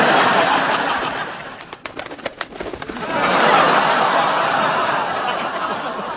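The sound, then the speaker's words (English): A pigeon that has got inside a room where a multi-wire particle detector is being built coos, and its wings flap noisily in a broad rush of fluttering, with a burst of sharp wingbeats in the middle, reverberating indoors. “How the hell did a pigeon get in here?”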